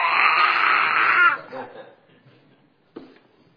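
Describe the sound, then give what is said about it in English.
A voice imitates an upset, gurgling stomach with a loud, strained, drawn-out groan that fades after about a second, followed by a short, sharp vocal burst. “And by the time I got home, my stomach was going...”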